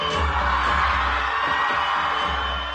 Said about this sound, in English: was one of those moviegoers cheering along in the crowd.